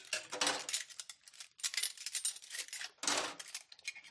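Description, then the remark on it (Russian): Clatter of dishes and cutlery being washed by two people downstairs in a kitchen in Denver, Colorado, USA, with bright clinks and scraping in several bursts over a few seconds and no voices. “Мы с Тоддом внизу на кухне моем посуду.”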